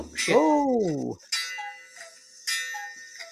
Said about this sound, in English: Did our bell ring at the same time you have a cuckoo clock? Yeah, I have a cuckoo clock.